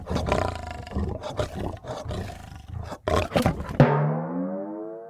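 A lion roars loudly, starting with a series of rough, growling bursts that build into one long, drawn-out roar trailing away at the end.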